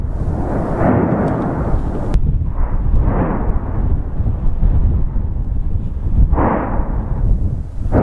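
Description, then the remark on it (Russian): An eruption of Mount Etna in Sicily, Europe's most active volcano, roars with a continuous deep, loud rumble, swelling into several heavy booming blasts about a second or two apart, with no voices. “Самым большим неудобством являются звуки взрывов и пепел”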